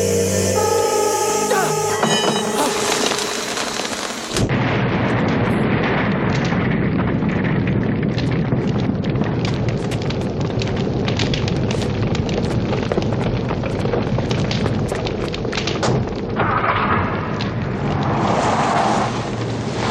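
A loud, sustained explosive roar, caused by the Starman using one of the spears, erupts after a few seconds of tonal music-like sound, filling the space with dense rumbling and crackling that continues steadily to the end.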